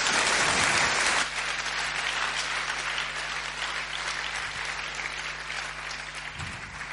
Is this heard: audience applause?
yes